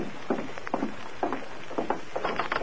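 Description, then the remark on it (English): Tonto's horse galloping, ridden hard, its hoofbeats coming in quick uneven clusters of dull thuds over a steady background hiss, with no voices. “I thought I heard a horse.”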